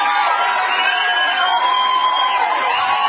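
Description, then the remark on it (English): A large crowd cheers and applauds steadily for a few seconds, with whoops and shouts rising over a dense, continuous roar of noise. “So I'd say America, do we have a round of applause for Americans and the way they respond to tragedies elsewhere?”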